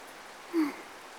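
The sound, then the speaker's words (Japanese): Steady, soft rain hiss fills the whole moment, even and continuous, with a brief faint tonal murmur rising briefly in the middle before the patter carries on unchanged; the rain keeps falling as the thunder dies down. “雷は収まってきたけど、もう少し降るみたい。”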